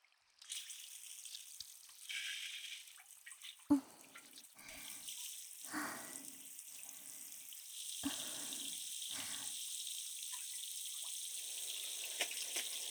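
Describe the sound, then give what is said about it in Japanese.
Running water pours steadily as shampoo foam is rinsed away, a continuous hiss broken by several heavier splashes and gurgles as the stream hits hair and skin. No one speaks. “そろそろ泡を流しますね。”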